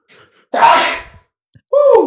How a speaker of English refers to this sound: Sorry, I have to fucking sneeze. Bless you.